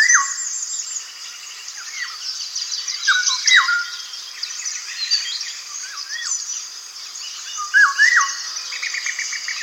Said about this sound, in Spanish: Aquí, en esta atmósfera verde oscura, parece que hasta los sonidos tienen color. Amarillo chillón, silba una oropéndola, una refrescante flauta modulada.